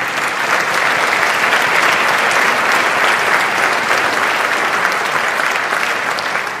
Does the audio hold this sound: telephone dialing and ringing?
no